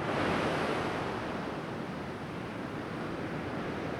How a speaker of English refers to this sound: I'm listening out for and sort of expecting seagulls, or their Arctic equivalents maybe, to be diving and bombing, but none, nothing, just the sound of the sea.